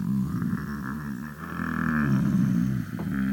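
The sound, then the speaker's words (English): A deep, drawn-out wooden groan with a low, wavering pitch, loud, swelling and sagging continuously for a few seconds as a ship's hull strains at sea among mountainous waves. “And it groans.”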